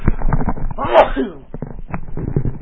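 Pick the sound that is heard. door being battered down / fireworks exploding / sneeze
sneeze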